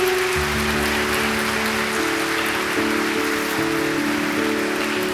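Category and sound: crowd, audience applauding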